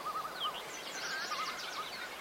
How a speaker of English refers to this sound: Just recording up there is a joy, it's just fantastic. 24 hours of light and you've got these fantastic sounds. At any given time, you've got bird sound all around you.